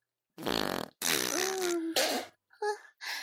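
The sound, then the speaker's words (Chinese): Loud, wet farting during a bowel movement: five sputtering bursts, the second long and drawn out with a low wavering tone, ending in shorter, fainter puffs. No one speaks. “不好意思啊，没忍住就拉出来了。”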